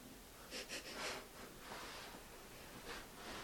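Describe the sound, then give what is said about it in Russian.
A few quick nasal sniffs in a cluster, followed by longer breathy snorts as someone clears their nose; fairly soft, with no talking. “И вот сейчас хорошенечко прокрутим нос.”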